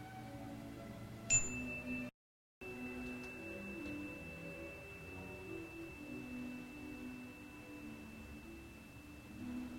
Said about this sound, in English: So we will be doing our meditation this morning, and I'm going to go ahead now, and I'll start the music and set the chime, and we'll go.